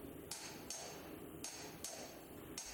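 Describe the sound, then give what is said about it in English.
Several hammer blows ring out on copper at an uneven pace in the copper market of a bazaar, each a sharp metallic strike with a bright, briefly lingering ring over a low, steady market hubbub. “Yes, the familiar sound of hammers on copper.”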